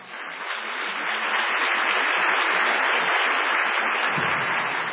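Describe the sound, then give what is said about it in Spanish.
An audience at the Teatro Colón solidarity gala for 50 years of national rock claps steadily for about five seconds for pianist Hernán Jacinto, a dense, even wash of applause that swells slightly at the start and holds at a constant level, with no voices heard. “Un aplauso para él.”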